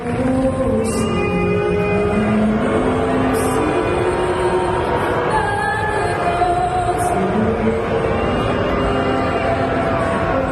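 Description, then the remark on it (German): A large crowd at a Toronto Raptors home basketball game boos the American national anthem loudly and steadily, long drawn-out low moaning boos overlapping into a continuous roar that never lets up for the whole stretch. “Und als dann da bei einem Heimspiel der Raptors die amerikanische Nationalhymne gesungen wurde, da gab es dann Buhrufe und das hörte sich dann so an.”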